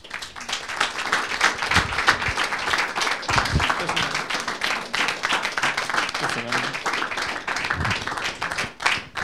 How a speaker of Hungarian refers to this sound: És ezek után már csak annyi maradt, hogy fogadjátok nagy szeretettel és meleg tapssal